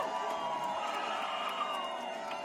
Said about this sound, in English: Her election night watch party was at the Park Hotel on Madison's Capitol Square, and when the race was called, the crowd erupted.